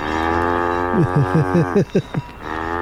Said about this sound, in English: And this is a sample, but listen. See? I told you. See, more cows.